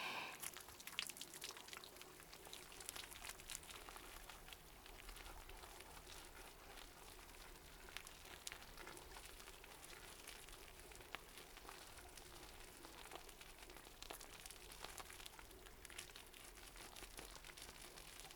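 Shampoo being worked into a fizzy lather, a steady wash of soft crackling and popping bubbles that continues evenly throughout with no talking.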